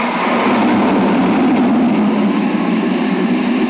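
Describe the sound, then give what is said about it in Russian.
A passenger airplane arriving from Riga roars loudly and steadily at an airport, a dense continuous rumble with a broad hiss on top and no voices. “А вот и долгожданный самолет из Риги.”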